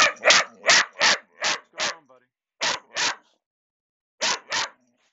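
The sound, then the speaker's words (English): A dog named Maddie lets out sharp, loud barks in clustered bursts: a quick run of five, a pause, then two more, another pause, and a final pair. “hold on, what's going on, dog?”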